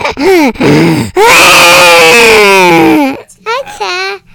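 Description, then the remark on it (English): A voice imitates snoring to show what their own snoring sounds like, with strained, groaning noises: a couple of short grunts, one long drawn-out rumbling groan, then two quick ones at the end. “Well, can you real quick for me tell me what it sounds like when you snore?”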